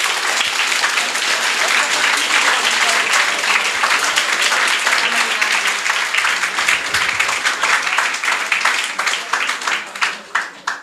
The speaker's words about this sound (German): Ich bin der Meinung, die haben jetzt mal einen Mega-Applaus verdient.